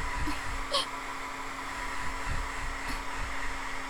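A hair dryer blows cool air steadily to set the hair, a continuous whirring hum with a faint tonal whine, broken by a few soft brushing sounds as it moves over hair.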